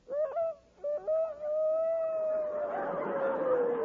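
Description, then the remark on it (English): Victor Moore mimics a rooster's crow on the Rexall radio program, presented as the crowing of the Pathé newsreel rooster: a few choppy opening notes, then one long, loud, sustained cry that sags slightly in pitch and turns raspy and breathy toward the end. “But now, ladies and gentlemen, as a special feature of the Rexall program, we present for the first time on the air the crowing of the Pathé newsreel rooster.”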